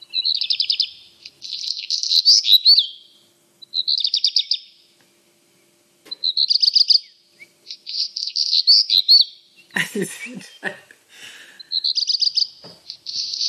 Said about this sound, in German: Ja, das ist der Hausrotschwanz. Ja, das erste Trillern ist so verwirrend.